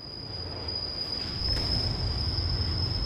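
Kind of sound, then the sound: vehicle, train on railway tracks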